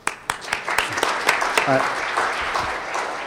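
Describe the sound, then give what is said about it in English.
A small group at a symposium gives a soft, polite golf clap, a steady patter of overlapping claps lasting about three seconds, with a brief murmur of voice underneath. “And with that, so a little golf clap for them.”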